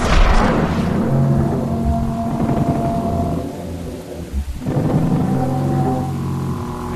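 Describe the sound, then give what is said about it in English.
A deep, resonant Parasaurolophus alarm call sent to warn the herd of a predator: two long, low honking tones with a rumbling, horn-like quality, loud and sustained, separated by a brief pause, with no voices. “They send out an alarm call to warn the herd.”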